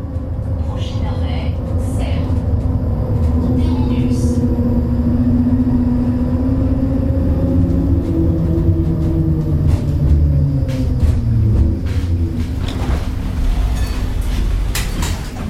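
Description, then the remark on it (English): A tram running from central Geneva to the main entrance of CERN rumbles steadily along the rails, its heavy low drone layered with rising and falling motor whine and a few sharp metallic clacks toward the end. “Stepping off the tram that takes you from central Geneva to the main entrance of CERN”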